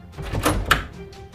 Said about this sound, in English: Jeannie then confidently opened the door.